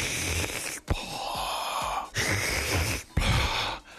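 Heavy, labored breathing of Dark Helmet, who resembles Darth Vader, struggling to breathe through his mask: several loud, long, rasping, hissy breaths in and out with short pauses between, and no talking.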